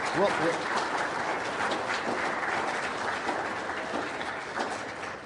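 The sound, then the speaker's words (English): A crowd claps steadily for several seconds for three standing graduates, a dense and fairly loud wash of applause with a faint murmur of voices underneath. “Let's give these three a round of applause.”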